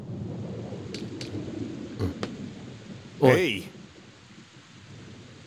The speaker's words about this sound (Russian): Дождь пошел.